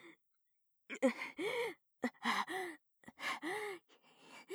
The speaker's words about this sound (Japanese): 息遣いが耳元で聞こえているとやっぱり興奮しちゃう。